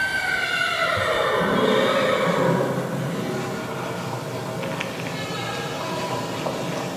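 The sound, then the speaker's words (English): On a film soundtrack, as Pilate comes in on his horse, the horse lets out a loud, drawn-out whinny that slides downward in pitch over the first few seconds, then gives way to a steady, noisy background. “Just a warning, it starts off with Pilate coming in on his horse, and so you'll hear the sound of a horse and neighing at various times.”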